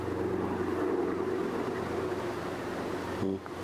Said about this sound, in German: Das klingt nach einem Hubschrauber.